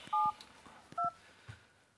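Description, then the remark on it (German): Two short, clear telephone keypad dialing tones as someone dials a phone to call a person's mobile, each a steady dual-pitched beep about a second apart, with no talking and only faint background noise. “Ich muss Bärbel anrufen. Warte. Oh, ich hasse Telefone.”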